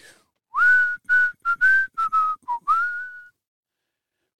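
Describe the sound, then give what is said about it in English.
A single person whistles the melody of a song, a string of clear, pitched notes in quick phrases with brief gaps, ending on one longer held note before falling silent. “I am just whistling the melody.”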